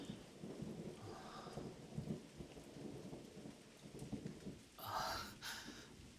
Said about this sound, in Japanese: こんな嵐みたいな天気じゃ、折りたたみ傘どころか君まで飛んでいっちゃいそうで。うわっ、雷まで。